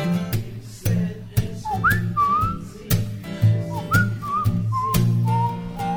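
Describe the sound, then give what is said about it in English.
Someone whistles a bright, wandering, clear melody over a steady rhythmic backing of plucked low notes and regular percussive hits. “All right, keep it going. I'll whistle.”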